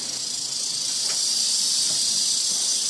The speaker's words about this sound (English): So I finish up my open house, go to step out the door, and there's this little rattlesnake outside. He's pretty little. He don't look too dangerous to me.